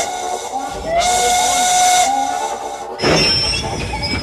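A steam train whistle blows loud, a sustained shrill tone wrapped in hissing steam, followed by a second sharp blast with a rush of steam near the end.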